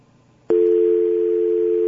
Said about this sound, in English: Now we have a dial tone.